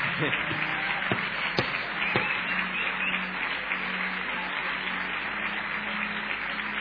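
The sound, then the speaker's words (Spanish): A crowd applauding steadily, a dense wash of many hands clapping at once with a few sharper individual claps standing out near the start, sustained and fairly loud throughout. “Vamos a ver si le podemos aplaudir.”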